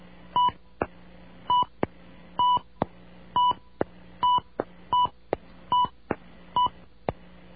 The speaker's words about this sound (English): Well, confound it all. These phones don't work. These stupid phones on campus, they don't send the touch tones for long enough so that the computer on the other end can hear you.